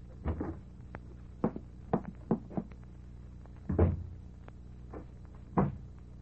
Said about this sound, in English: Locking the door, kid? What you locking the door for? Ma's in there. So what? So what? Ma's in there, okay. So what you want to lock her in for?